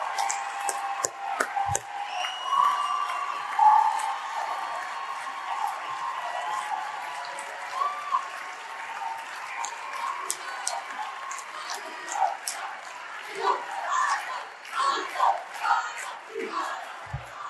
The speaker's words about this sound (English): They love you so much, they don't even know what to chant, dude. There's just chants everywhere. You know, we got Let's Go Brandon over here. We love Kyle over here in USA.